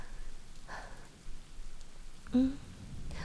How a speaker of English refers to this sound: So, I was walking home and I got caught in this rainstorm and I don't know where else to go.